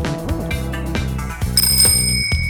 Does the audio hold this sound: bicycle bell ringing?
yes